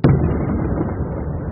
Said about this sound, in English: and 10 minutes later, we started explosions, which shook the hotel. These are clearly missile strikes. It's no surprise, because Odessa, it's a strategic port. There's a naval base in Odessa, and this is what it sounded like.